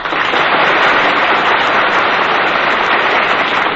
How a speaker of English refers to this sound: I love to hear applause.